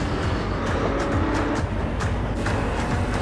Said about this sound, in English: It's a Dodge Charger, which, to be fair, Vin Diesel is the human version of a Dodge Charger. Well, yeah. Are we going to listen to it? That's Vin Diesel, just car sounds.